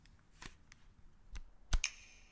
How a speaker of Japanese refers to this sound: 指パッチンの音みたいですね、なんかが2つこうカラカラッとなってる感じの、しかもエコーがかかっている。 でしかもそれを自分が装着した時に鳴らしてるわけですから。